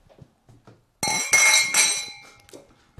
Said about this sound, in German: Und müssen, glaube ich, im Rest dieser Folge abweichend mit einem... mit einer Bierflasche oder Bierglas anstoßen. Ja, also ich würde sagen, wir nehmen ein Bierglas hier, ne?